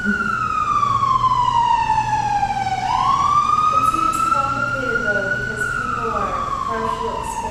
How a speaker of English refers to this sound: I'm sorry, you got drowned out by the siren.